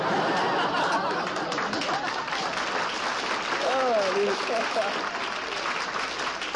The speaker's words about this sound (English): I want to thank every bachelor in the audience. Even a couple of married men are applauding.